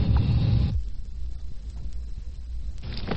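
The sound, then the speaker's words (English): A police car pulls into the yard, its engine a steady low rumble, with louder bursts of rushing noise at the start and again at the very end. No one speaks. “Unit 4 just pulled into the yard.”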